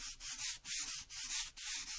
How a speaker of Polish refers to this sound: Mamy szum. Tak. I na tym ci zależało. Tak, jak najbardziej. To jest książka, która okładka jest powlekana taką folią piaskową, która jest sprowadzana z Hiszpanii właśnie po to, żeby szeleściła, żeby szumiała